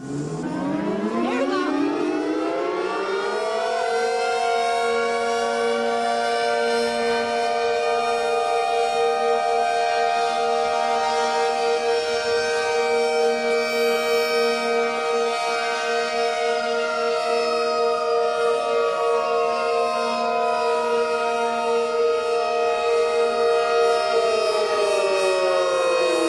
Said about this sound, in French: Ça commence en étant un bruit, le temps que les quatre sirènes se lancent.